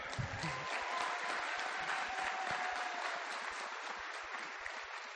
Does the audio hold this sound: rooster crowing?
no